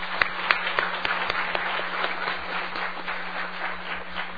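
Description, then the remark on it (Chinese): A room full of people breaks into applause to welcome a couple from Hong Kong, steady overlapping clapping with a few sharp louder claps early on, continuing evenly at moderate volume throughout. “在我们前面，再鼓掌欢迎他们，好不好？”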